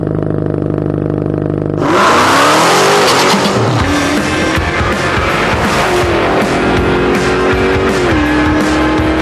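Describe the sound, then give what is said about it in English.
After a quiet start, a car roars to life and accelerates hard with squealing tires. The engine pitch climbs through gear changes, loud, with no voices. “If the intro was me in the twin turbo charger, you would hear a big crash, me hitting the wall after I hit second gear.”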